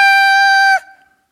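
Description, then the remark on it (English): A single short rooster crow, loud, holding one steady strained note before cutting off abruptly into a brief fading echo. No one speaks. “And on top of the weather vane was a cockerel.”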